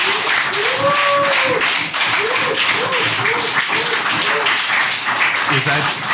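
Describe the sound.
Sustained audience applause at a gathering in Bottrop, a dense steady wash of many hands clapping at full loudness, with cheering voices and calls rising over it throughout.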